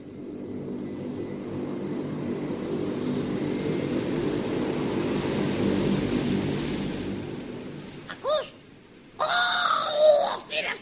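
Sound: airplane engine noise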